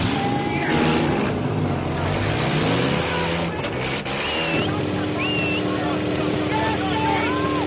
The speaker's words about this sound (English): And so to the final reckoning. Colossus versus Colossus, Goliath versus Goliath. Gentlemen, warm up your engines!